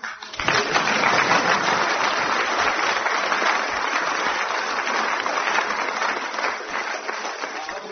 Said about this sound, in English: So what I'm going to do is, the next time the audience applauds a late arrival vociferously, we shall close the program.